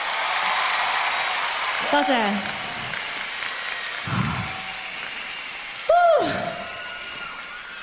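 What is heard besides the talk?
audience applause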